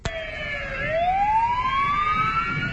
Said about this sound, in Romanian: În România, sirenele stațiilor de salvare și de pompieri au sunat astăzi timp de 30 de secunde într-o manifestare de solidaritate cu asistentele medicale bulgare.